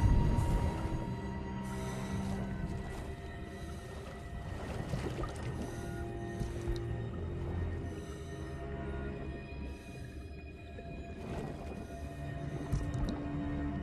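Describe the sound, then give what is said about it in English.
Muffled underwater ambience with steady low droning tones and bursts of bubbling air from scuba divers swimming down toward the seabed in dark, murky ocean water, gurgling and rising continuously throughout. No voices are present. “Air bubbles trace a path back to the surface.”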